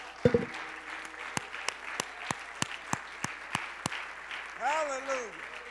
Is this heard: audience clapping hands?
yes